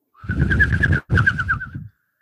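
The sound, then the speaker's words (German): A person mimics a bird chirping as a joke, making two quick warbling, whistle-like bursts separated by a brief pause, with breathy noise underneath and no talking. “Wir haben einen Vogel im Studio.”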